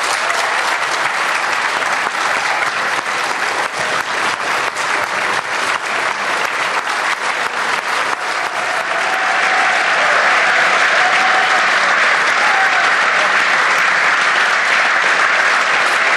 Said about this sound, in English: So there you hear the applause from the government benches, the new Taoiseach being congratulated now by his colleagues, is shaking hands with Eamon Ryan there a moment ago with Micheál Martin, and all the government benches are on their feet